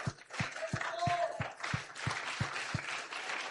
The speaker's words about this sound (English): Somebody clap your hands if you believe that.